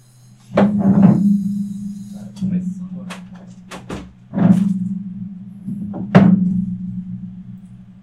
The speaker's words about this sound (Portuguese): Voltei. Pronto, encostei a porta.